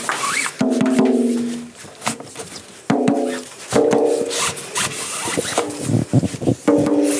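A rope is hauled tight around the steel hoops of a drum in a series of pulls to tighten its goatskin head, each one a creaky, groaning rub with a tonal squeal, separated by short scuffs and knocks. No one speaks.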